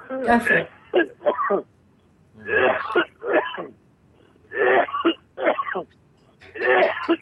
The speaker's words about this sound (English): Pardon me, I'm going to cough for just a moment because Spirit's starting to come through me now a little bit stronger. I just need to cough it up a little bit here, okay?